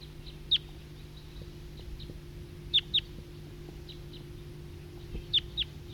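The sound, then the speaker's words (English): Wild birds give short, high-pitched calls, often in quick pairs, at scattered moments over a steady low hum. The calls stand out clearly but are sparse, with quiet gaps between them. “It's recording Flock of Wild Birds.”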